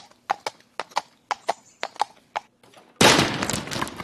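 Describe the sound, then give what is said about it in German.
A chair set in front of a microphone creaks and knocks in a run of sharp, evenly spaced taps, then suddenly gives way with a loud, noisy crash that rumbles on for a second as the person sitting on it falls. “Uiuiuiui, jetzt bin ich aber auf meinen dicken Popo gefallen. Ich glaube, ich war etwas schwer für den Stuhl.”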